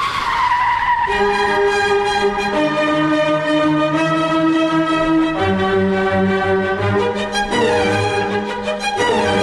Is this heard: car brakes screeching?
yes